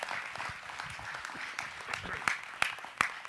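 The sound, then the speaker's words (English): An audience applauds a woman who kept a thankfulness calendar every day for 365 days, a dense patter of many hands clapping steadily at moderate loudness, with a few sharper, louder claps standing out toward the end. “Give her a big clap, will you?”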